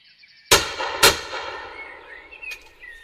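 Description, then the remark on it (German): Two sharp, loud hunting rifle shots ring out about half a second apart, each leaving a lingering reverberant tail, fired by a hunter at a wildcat in the Spessart. A quieter crack and faint tonal chirps follow, with no one speaking. “Die Wucht der Kugel schleudert das Tier ins Gras. Es war ein weitgerechter Schuss, auf den der Jäger stolz sein kann.”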